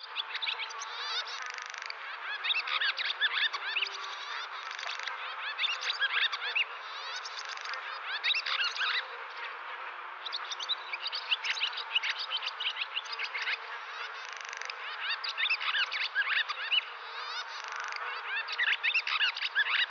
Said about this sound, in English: And now back to the swallows in real time.